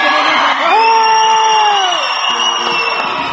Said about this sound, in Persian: به افتخار خودتون سوت بلند بزنید فعلا.